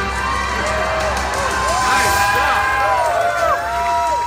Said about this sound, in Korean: 리본을 자르며 본격적으로 개장을 알리는 발표를 하자 사람들의 환호가 터져나왔습니다.